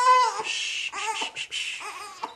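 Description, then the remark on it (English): An infant fusses during a diaper change on the living room floor of a townhouse in Washington, D.C., letting out a string of short, whiny cries and whimpers in quick uneven bursts, with no adult voice audible. “tries to placate baby”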